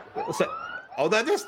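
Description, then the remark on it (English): A short police siren sound effect wail sweeps steadily upward in pitch, then breaks off as voices talk over the end of it; the effect is brief. “You need a different siren.”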